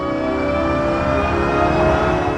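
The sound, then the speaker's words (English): A synthetic, designed car acceleration sound made using natural sounds: a smooth, layered tonal hum with steady harmonic pitches over a soft airy bed, holding constant and fairly loud throughout, with no voices. “But it still sounds like a car, and it absolutely had to, because we don't want pedestrians to hear it and say, oh, what's that, and get hit by the car.”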